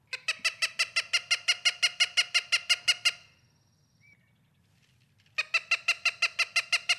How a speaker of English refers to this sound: I want to listen to the Cooper's hawk and let's talk about him a little bit.